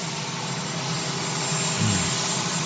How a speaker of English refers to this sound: Yes, the dulcet sounds of the auxiliary power unit on the helicopter.